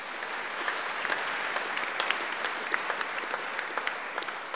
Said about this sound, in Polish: Także bardzo dziękujemy, wielkie brawa.